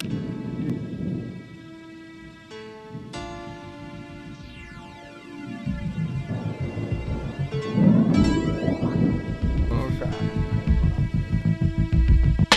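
Deep, rolling thunder rumbles continuously as rain approaches, swelling louder about halfway through, with a steady hiss like rain and some faint tonal hum layered over it.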